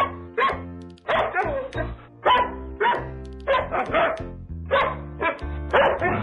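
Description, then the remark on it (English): A dog barks over and over in a steady rhythm, the loud barks pitched to follow a bouncy tune over a low musical backing, part of a jingle about quarterback Mike Vick and a dog. “There was an athlete had a dog, and Mike Vick was his name.”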